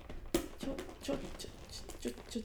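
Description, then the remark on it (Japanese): Someone struggles to open a fairly large cardboard box, about the size of two paper milk cartons, holding a product called a nipple dome. There is a sharp thump followed by repeated scraping, crinkling and tearing bursts, while a voice murmurs faintly underneath. “開きません、開けよ、”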